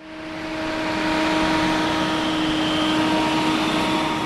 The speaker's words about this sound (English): The rumble of tractors means harvest time is coming at the D River Ranch near Aliceville.